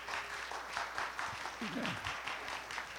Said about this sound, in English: Would everybody give the Lord a hand clap of praise?